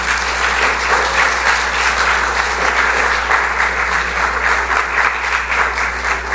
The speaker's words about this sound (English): Anyway, clap loud enough that he can hear it, okay?